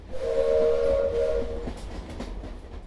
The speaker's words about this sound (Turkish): Tren İstanbul'a doğru ilerliyor ve bir şekilde yolumuza devam ediyoruz.